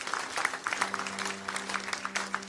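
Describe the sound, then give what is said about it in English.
A church audience claps together in a steady, dense round of applause for those who prayed a prayer for the first time, crisp and fairly lively throughout, with a low sustained tone humming faintly underneath and no voices. “Let's give a round of applause to those who prayed that prayer for the first time.”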